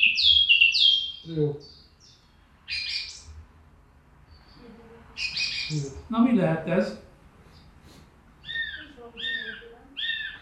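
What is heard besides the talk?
song thrush singing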